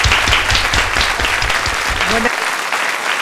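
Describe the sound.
An audience applauds loudly, a dense wash of clapping with faint voices mixed in, sustained steadily for the full few seconds.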